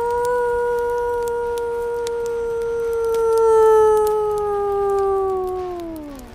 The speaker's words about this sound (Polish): Na szczęście w tej chwili na progu pojawił się srebrny wilk. Na widok płomieni zawył głośno. Au!